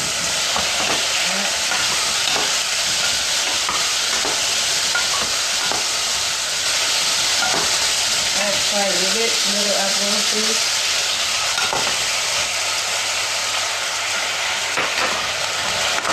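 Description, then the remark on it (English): Steady, loud sizzling of food frying in a pan, punctuated by scraping and clinking as a utensil stirs the ingredients, with a faint voice murmuring briefly midway. “I have some apple juice here. We're going to add it in to sweeten our dishes.”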